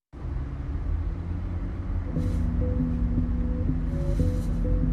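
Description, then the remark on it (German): A nearly full minibus drives through the streets of Cologne, Germany, its engine a steady low rumble with a faint humming tone, broken by a couple of brief airy hisses partway through. “Ein Kleinbus fährt durch Köln.”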